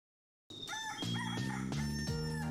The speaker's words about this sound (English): please cue the rooster